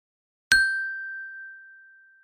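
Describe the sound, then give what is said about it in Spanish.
A single bright chime, the signal before the audio in a Spanish listening comprehension test, strikes once and rings out with a clear, sustained tone that slowly fades over about two seconds, heard on its own with no talking. “A continuación, escucharás el audio después de la señal.”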